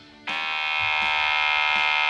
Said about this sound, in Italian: Cos'è? Un vibratore. Ah, che... Sai come si usa? No! Avanti indietro, avanti indietro, avanti indietro, avanti indietro, avanti indietro, avanti indietro, avanti indietro, vibra! Vibra! Vibra!